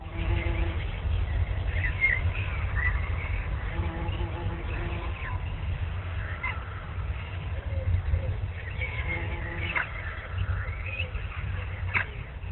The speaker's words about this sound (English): Where do you think you are? I hear birds chirping. I hear what sounds like a fly.